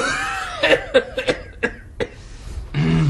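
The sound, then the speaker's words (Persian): A person with a persistent, troublesome cough coughs repeatedly, a string of about six short, harsh bursts spread over a couple of seconds, with a low droning tone rising at the end. “اینا سرفه میکنم، من یه چند وقتی که این سرفه ها منو خیلی اذیت میکنه.”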